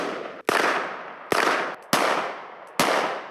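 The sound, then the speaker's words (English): Four loud, sharp gunshots crack out at uneven intervals as Bailey shoots at a piece of paper tacked to a tree in a campaign ad. Each shot trails off in a brief fading ring before the next. No voices are heard. “Bailey takes aim and shoots at a piece of paper tacked to a tree that said, "I will not comply."”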